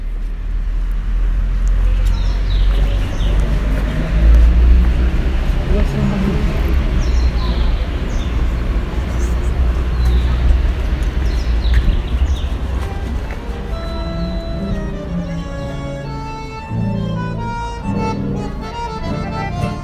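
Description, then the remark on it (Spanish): A steady, loud wash of city traffic from cars, taxis and buses rumbles throughout, with thin, high spring bird chirps flickering above it in short bursts, and some voices murmuring toward the end. “Statt der ohrenbetäubenden Geräuschkulisse der vielen Autos, Taxis und Busse hört man nämlich auf einmal den Frühling in der Stadt.”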